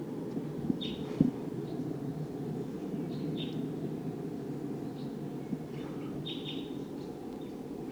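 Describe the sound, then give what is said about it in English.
A wild bird gives several short, high-pitched V-shaped flight call notes at irregular intervals, fairly faint over a steady low rumble of wind or background noise. “Sounds like the V-shaped flight call note. Wild bird.”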